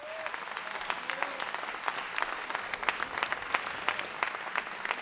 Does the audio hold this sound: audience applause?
yes